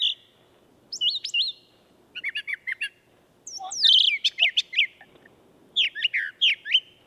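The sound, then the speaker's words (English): A brown thrasher sings in short bursts of bright, varied chirps and whistled phrases, several groups repeated with brief pauses between, clear against a quiet background. “Lee's got a brown thrasher. Okay, let's see if we can find that.”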